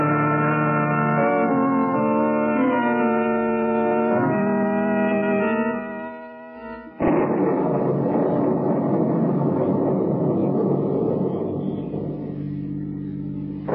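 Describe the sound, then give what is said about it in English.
A sustained, droning chord of tones breaks off into a sudden loud thunderclap about halfway through, followed by a long, noisy roll of thunder that slowly fades. “What a thunderstorm.”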